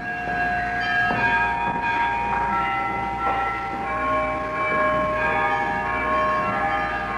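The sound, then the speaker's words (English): Church carillon bells in Sitka, played rather than simply rung by a bell ringer, sound a slow sequence of struck tones on a historic recording. Their long overlapping overtones sustain over a steady background hiss, like an old, fairly loud recording. “The bells have often rung in Sitka since then, but they haven't sounded anything like this.”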